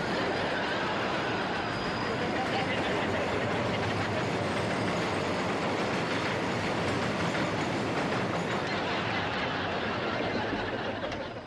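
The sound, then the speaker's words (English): A loud elevated L train rumbles and clatters along the tracks close by, a dense steady roar of wheels and rails filling the whole stretch before easing off slightly at the very end. “Real close to the L train.”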